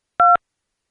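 A single telephone keypad button press while navigating an automated movie-listings phone menu: one short, clear dual-tone beep lasting about a fifth of a second, followed by silence, with no voices.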